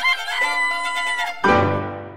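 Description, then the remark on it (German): Musical instruments imitate a rooster's crow in the Carnival of the Animals: a bright, reedy clarinet phrase, then a sudden loud piano chord that rings out and slowly fades. No voices. “Beim Karneval der Tiere wurde das Hahnenkrähen von einem Klavier gespielt. Und später von einer Klarinette.”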